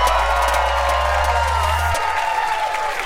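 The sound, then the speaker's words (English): A live audience cheers and applauds in a steady, dense roar lasting about three seconds, with a low hum underneath that cuts out partway through. “You guys are such a beautiful crowd. Are you guys having fun?”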